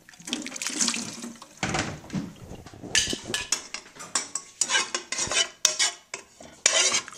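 A housewife cooking in her home kitchen in Abuja: running water from a tap, clinking cutlery and dishes, and stirring, with irregular bursts of clatter and splashing and no talking.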